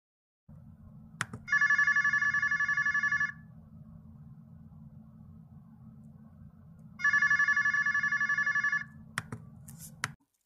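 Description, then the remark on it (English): A phone rings twice while a call is placed, each ring a long, steady electronic tone with a pause between, over a low constant hum and a few sharp clicks. “I think we need to make a phone call to Suhani and Emma.”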